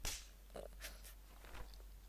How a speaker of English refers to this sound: Did you just slap my ass?